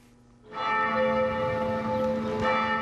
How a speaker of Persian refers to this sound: هنگامی که زنگ کلیسای معبد قدیمی روین به صدا در می‌آید